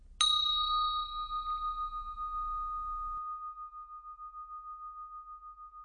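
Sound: meditation bell ringing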